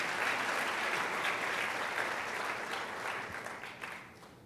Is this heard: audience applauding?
yes